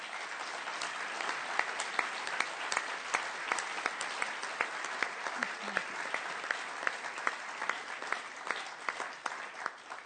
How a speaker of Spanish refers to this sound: Démosles, por favor, un fuerte aplauso.